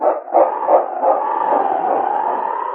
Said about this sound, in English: And then, barking his determination, King turned and raced down the trail.